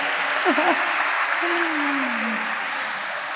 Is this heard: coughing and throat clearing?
no